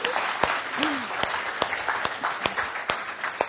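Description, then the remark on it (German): An audience claps steadily for three people, a dense wash of overlapping handclaps with sharper individual claps standing out, plus a brief whoop or cheer in the middle. “Gebt kurz Applaus, die drei.”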